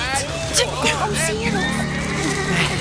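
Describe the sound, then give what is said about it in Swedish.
Several horses ridden by six soldiers neigh and whinny in overlapping, rising-and-falling calls over a steady low rumble, loud throughout the short stretch, with faint murmuring underneath. “Sex stycken soldater på hästar.”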